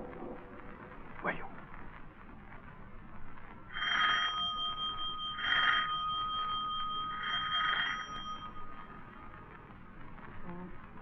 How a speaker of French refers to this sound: Numéro 3 de la rue Bergère, à droite sous la porte cochère. 3 coups de sonnette, on ouvrira.